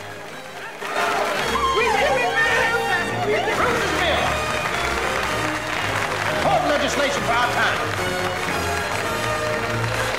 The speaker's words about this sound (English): Bruiser's Bill. Bruiser's Bill. Bruiser's Bill. A standing ovation.